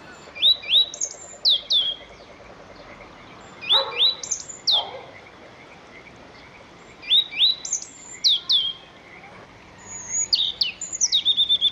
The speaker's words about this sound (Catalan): L'últim cant era el pit-roig.